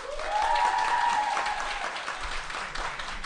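audience clapping

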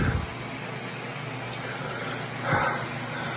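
shower running

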